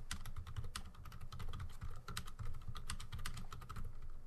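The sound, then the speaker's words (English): Rapid, continuous typing on a computer keyboard while writing in a chat, a steady stream of clicking keystrokes with no voices, over a low background hum. “I apologize. Just typing in chat.”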